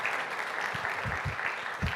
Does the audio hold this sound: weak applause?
yes